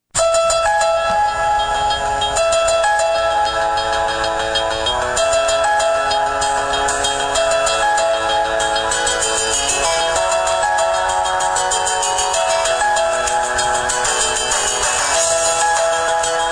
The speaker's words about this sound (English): we're going to play for you a version of the T-Mobile ringtone. Now, I don't want you to email me and tell me it's the T-Mobile ringtone. That'd be very easy. Yeah. I want you to tell me which specific device this version of the ringtone comes from.